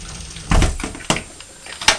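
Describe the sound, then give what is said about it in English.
A door is opened to check inside, then shut and secured: a heavy thud, a sharp click, then another knock of the door swinging shut, a few quick mechanical bumps with no voices. “Open the door. Just check there's nothing in there that there shouldn't be.”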